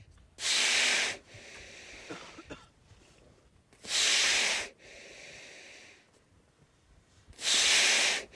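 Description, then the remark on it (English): A seal surfaces at a drilled hole and breathes heavily through its nostrils, three loud, hissing snorts about three seconds apart, each followed by a softer, rattling draw of breath, with no talking. “So typically they will do 15-minute dives, and then they will come up and breathe heavily, as you just heard, and then, of course, you'll hear the breathing tail off as they oxygenate.”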